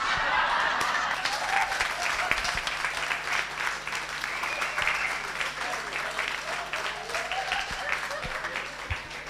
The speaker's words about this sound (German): War das jetzt für mich, der Applaus?